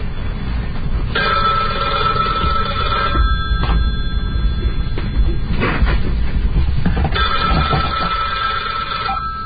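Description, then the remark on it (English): A telephone rings on air at radio station WBAI 99.5 FM in New York, just before the Off the Hook broadcast, in two long bursts of bright, steady tones with a short gap between them, loud over a rumbling low background and some clattering knocks. “Where's the phone?”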